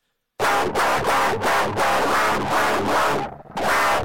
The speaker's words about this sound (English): I have like a classic guitar, but I detuned it as far as I possibly could and ran it through the most disgusting distortion I possibly can. Here's what I think djent sounds like.